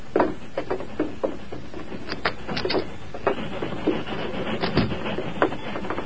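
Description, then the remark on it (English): A steady mechanical rumble and hiss with irregular clanks and rattles, like a train pulling in at the station a few minutes early and coming to a stop. No voices are heard. “I hear the train stopping.”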